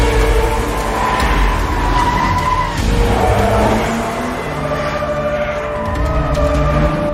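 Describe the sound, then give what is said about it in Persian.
A stolen car's engine roars and revs, its pitch rising and falling as tires skid and screech, the vehicle tearing away loudly and continuously with no voices. “چه غلطی داری میکنی؟ دارم ماشین میدوزدم.”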